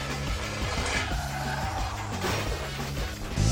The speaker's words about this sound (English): Start the car. You crashed the car. In local news, a spectacular car crash. Car, house, car.